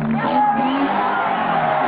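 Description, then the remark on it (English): A crowd at a motorcycle stunt ring applauding as a rider does a wheelie riding back in, with a steady, loud wash of cheering voices and whoops running continuously through the whole two seconds. “The crowd smiles and applauds.”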